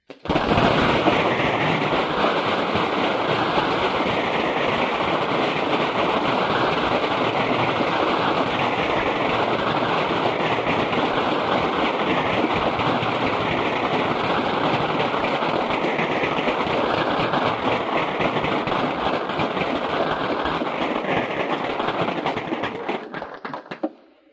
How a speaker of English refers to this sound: Mr. Hooks, I think this standing ovation is testimony of both the interest and acceptance and the appreciation of your comments today to this group of engineers and communicators.